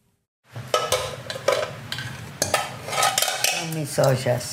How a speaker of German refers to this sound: Sie hält zwei verbeulte und verkratzte Pötte in der Hand, dreht sie, wendet sie, streicht über die Dellen und Kanten.